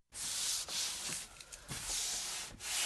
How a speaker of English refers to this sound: Then he uses a metal scraper to even up the bow's thickness above and below the hand grip.